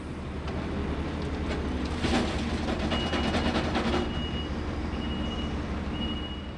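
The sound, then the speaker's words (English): Bobcat skid loaders and dump trucks, used by National Guard troops to clear branches and brush off the streets of Delmont after a tornado, rumble steadily with a burst of clattering and scraping midway, while a high backup alarm beeps intermittently over the engine drone. No one speaks. “National Guard troops use bobcats and dump trucks to clear branches and brush off of the streets.”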